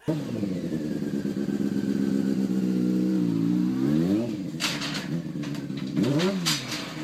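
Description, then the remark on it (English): A truck engine drones loudly, then revs hard twice, its pitch climbing and falling, with gritty bursts of noise in between. No one speaks. “If he'd have turned the truck around, he'd have went right up.”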